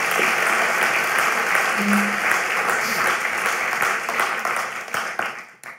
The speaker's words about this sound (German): Hammer gemacht, ihr Lieben, das war richtig gut. Gebt doch mal unseren Jugendlichen noch mal einen Applaus.